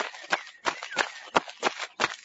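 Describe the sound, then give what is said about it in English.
Quick running footsteps of a boy running to a village, about six steps in a steady, brisk rhythm, moderately loud, with no other sounds around them. “One day, he ran to the village.”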